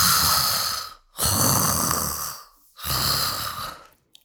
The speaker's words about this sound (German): Das ist Schnarchen.